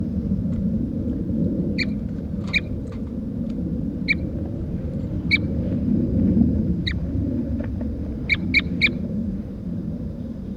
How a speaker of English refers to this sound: Start recording. This is bird 4-3 at 9 o'clock a.m.